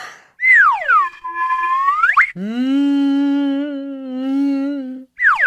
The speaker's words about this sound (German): Das ist eine Karma-Pfeife. Kann man die essen? Nein, du Witzbold. Man kann darauf pfeifen. Die Karma-Pfeife hat einen wunderschönen Ton. Hörst du es? Da geht es mir gleich viel besser.